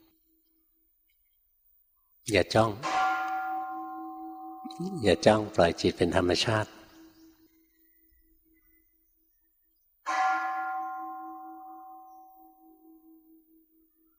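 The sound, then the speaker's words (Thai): A bell is struck twice during a meditation session, each strike ringing out clearly and slowly fading; a man speaks briefly between the strokes, and the second ring sustains alone in quiet. “เงยหน้าขึ้นมาหายใจดูจิตไหวเสียงระฆังจิตจะไหว”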